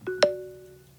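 A new phone SMS text-message tone called Capriol: a short two-note electronic chime, a soft tonal blip followed quickly by a brighter, louder ping that rings out and fades smoothly over about a second, with no voices.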